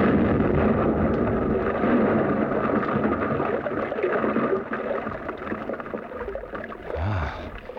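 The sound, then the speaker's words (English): A blasting charge, wired to an exploder and set off by pressing its handle, goes off in a tunnel: a loud, heavy roar of deep rumbling and crackling debris that rolls on for several seconds, easing slightly before a final low surge. “The two men disappeared up the gallery, and I was left alone to explode the charge.”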